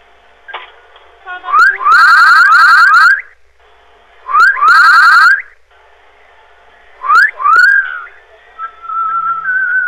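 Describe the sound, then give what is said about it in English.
A person whistles loudly in three separate bursts, each opening with a rising swoop and breaking into a fast warbling trill, with short pauses between them. “Whistles?”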